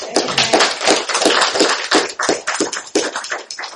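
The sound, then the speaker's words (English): A church audience claps together for children presented to the church: a loud, steady wash of many hands, with sharp overlapping claps that swell in uneven pulses and never stop. No voices come through. “And important kiddos, you heard all these folks clapping, and they're just simply saying, thank God for what he's done in your heart and life.”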